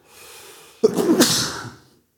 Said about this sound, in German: Pass auf, wer dreimal niest, ist doof.